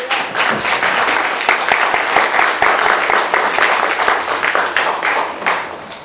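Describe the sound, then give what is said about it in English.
A crowd applauds steadily for about six seconds, a dense, loud wash of many hands clapping with no single beat standing out, easing slightly at the end. The applause is for a man about to summarize the Oscar Grant case. “But you know, can y'all give him a round of applause?”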